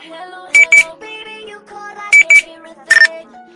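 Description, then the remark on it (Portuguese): Short, bright electronic chirps of a Nextel push-to-talk radio: two quick double-beeps, then a single higher one, each a crisp high-pitched burst over soft background music. “vou fechar esse podcast com outro assunto polêmico, que é a galera do Nextel.”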